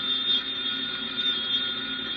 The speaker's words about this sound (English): Want me to get the phone? You know, I'll answer it. That's Miss Dale.